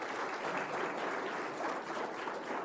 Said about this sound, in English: And so, yes, give them applause.